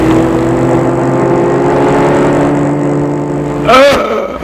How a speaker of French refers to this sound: Une voiture a foncé sur lui et l'a renversé. L'homme reste à terre, couché, les bras en croix.